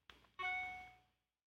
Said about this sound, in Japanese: 今のは、iPhone のメールの通知音、デフォルトの通知音ですけれども、こういう音ももちろん誰かが必ず設計して作っているわけです。